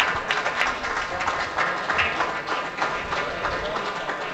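An audience applauds steadily, a dense wash of many hands clapping at an even, fairly loud level for several seconds, with no one speaking over it.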